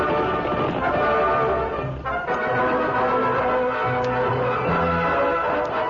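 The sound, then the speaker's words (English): A group of horses, ridden by cattle rustlers riding away, gallops in a dense, continuous clatter of hooves, loud and steady throughout, with no voices. “The Lone Ranger, Tonto, and the Indians followed the prints left by the stolen cattle and the horses of the rustlers from the scene of the ambush.”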